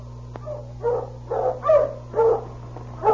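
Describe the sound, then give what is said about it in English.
A sled dog team being driven at a fast pace on the road from Dawson City to 40 Mile barks and yelps in a quick, uneven series of about six moderately loud calls, over a steady low electrical hum, with no talking. “Sergeant Preston of the Northwest Mounted Police had left Dawson City and was driving his dog team at a fast pace”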